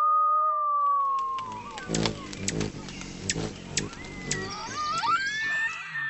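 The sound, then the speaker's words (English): A montage of wild animal calls recorded by National Park Service microphones: a long, slowly falling coyote howl in Colorado, then a flurry of sharp chirps and buzzing clicks from a hummingbird in Washington State, ending with high, wavering bugling calls from elk in Sand Dunes National Park. “Coyotes in Colorado, a hummingbird in Washington State, elk from Sand Dunes National Park.”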